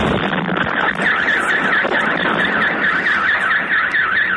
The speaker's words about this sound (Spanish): Son los drones rusos que cada noche sobrevuelan Kiev para atacar puntos claves de la ciudad.